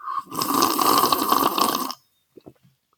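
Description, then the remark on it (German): A loud, airy slurp of hot tea at Schliersee lasts about two seconds, hissing and gurgling with a faint whistling tone, then a couple of soft swallow clicks follow. “Tee schlürfen und ein Imperium aufbauen.”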